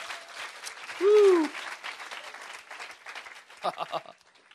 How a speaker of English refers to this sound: Come on, give God a hand clap. Воздайте славу Богу.